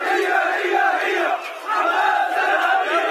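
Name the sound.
crowd chanting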